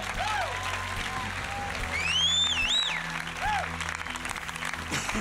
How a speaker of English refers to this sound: Amen. Amen. Give the Lord a clap offering, everybody.